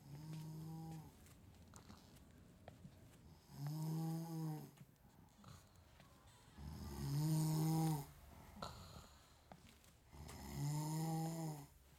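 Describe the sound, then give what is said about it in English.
A woman snores loudly while asleep: four drawn-out, rumbling breaths at a slow, steady rhythm, with quiet pauses between them and no talking. “You'll see when we get back, she'll be snoring away just like she is now.”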